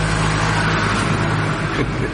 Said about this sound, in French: Excusez-moi, mais il fait tellement chaud, j'ai laissé la fenêtre ouverte, c'est pourquoi vous entendez de temps en temps une voiture ou un camion qui passe.